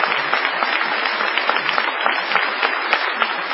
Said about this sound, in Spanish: No menos desmesurada ha de ser la ovación tributada al artista antes llamado Gillespie.